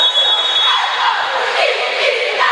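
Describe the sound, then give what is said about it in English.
A referee's whistle sounds a thin, steady high tone for just under a second over a dense wash of arena crowd noise at a basketball game between Phoenix and Wetumpka, with 3:33 left in the first quarter, blown because the clock was not started on the inbound. The crowd noise carries on after the whistle stops. “Whistle blown there, and I don't think they got the clock started, and that's what this is about.”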